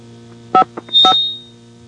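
A mobile phone gives two short electronic beeps about half a second apart, the second trailing into a brief high tone, with a faint blip between them over a steady low background hum.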